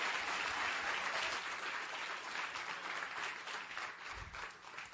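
A crowd applauds steadily for about five seconds, a dense, even wash of many hands clapping at once with no talking over it.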